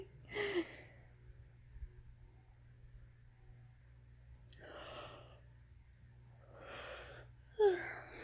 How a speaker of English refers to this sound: Oh, you made me yawn too. You tired, baby?